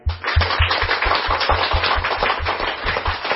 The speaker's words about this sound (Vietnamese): chúng ta vỗ cho một tràng pháo tay thật to trong buổi họp mặt hôm nay.